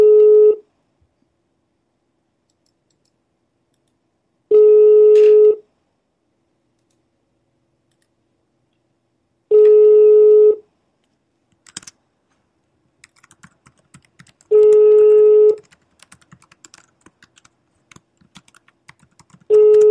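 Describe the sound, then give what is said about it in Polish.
A telephone line tone repeats in steady one-second beeps about every five seconds, with a burst of light clicking and tapping, like keys being pressed, between the later tones, as calls are made to pharmacies. Nobody speaks. “Dobra, dzwonimy dalej.”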